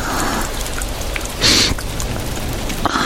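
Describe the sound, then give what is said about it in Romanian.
Water runs steadily from a tap, a continuous hiss and splash with no voices, swelling into a brief louder gush with a faint whistle midway through. “N-ați vrea să dați puțin drumul la robinet?”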